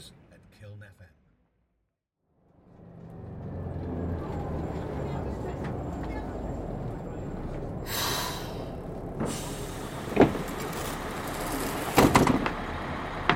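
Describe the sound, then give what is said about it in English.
A bus rumbles in and pulls up at a stop, its low engine drone building and holding steady, then several sharp hisses of air brakes and doors, with muffled voices faintly underneath. “I'm not being funny, love, but if you don't take those headphones out and talk to me face, you're not getting on my bus.”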